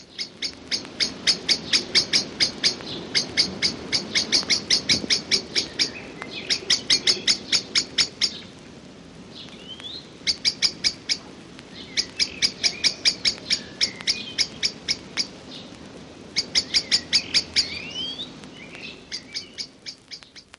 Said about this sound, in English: Blackbird alarm note.